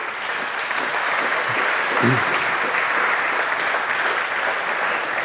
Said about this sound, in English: Once again, thanks to the angels and the sound people. Give them another round of applause for the entire conference.